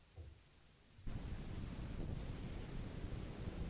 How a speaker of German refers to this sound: An diesem Abend wehte ein Wüstenwind. Es war einer jener heißen, trockenen Santa Anas, die durch die Gebirgspässe herunterstürmen, meine Nerven zerren und auf der Haut jucken.